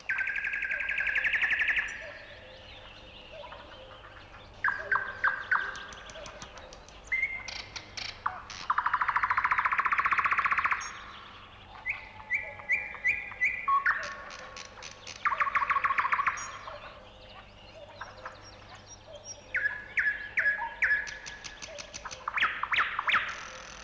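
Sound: nightingale singing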